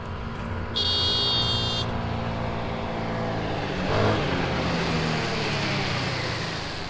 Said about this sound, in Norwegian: En liten mann på scooter kommer kjørende.